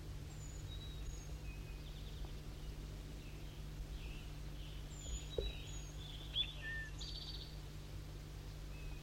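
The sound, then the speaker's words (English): Faint, thin, high-pitched song of bird 4-3 comes in short scattered whistles and chirps over a steady low hum. No one speaks. “Start recording bird 4-3 singing.”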